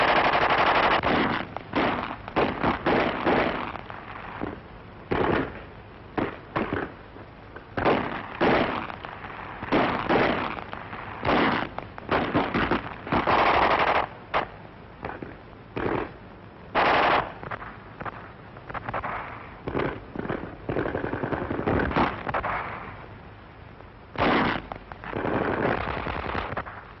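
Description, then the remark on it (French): Repeated bursts of machine gun fire as tanks advance toward the Étoile, crackling and rattling in irregular clusters, with sharp single shots scattered between longer rapid volleys, loud and continuous with no voices. “Où toutes les armes donnent de la voix.”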